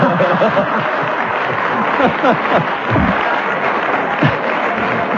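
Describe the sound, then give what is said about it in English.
An audience claps steadily for several seconds, a dense, even patter of applause mixed with scattered chuckles and murmuring voices. “I know I have to keep going even when you applaud, because otherwise I shall be had up for hesitating.”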